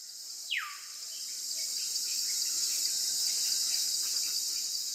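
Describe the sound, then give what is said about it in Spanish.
A dense, unbroken chorus of insects chirping in the Amazon jungle at Leticia, where the air is humid, a shrill high-pitched buzz holding steady throughout, with one brief downward-sliding whistle near the start. No voices. “En Leticia el aire es húmedo, los insectos cantan y el río habla con su voz profunda.”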